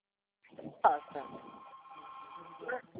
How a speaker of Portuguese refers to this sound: Eu não estou conseguindo ouvir direito porque está cortando a ligação. É que tocou o telefone aqui e acabou cortando.